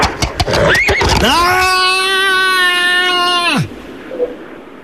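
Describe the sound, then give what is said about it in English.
A few sharp clattering sounds, then a loud horse whinny holds steady for over two seconds before dropping off at the end, followed by near silence; the horse is being ridden on a farm. “I'm on a horse at the moment, so I've got the number in my pocket.”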